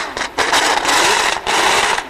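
A new flat-12 combustion engine being tested clatters loudly and harshly, a dense metallic rattling like loose parts knocking, running steadily with two brief dips in intensity. No one speaks.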